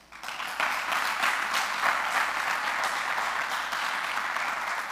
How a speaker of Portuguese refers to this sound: Dá um aplauso aí.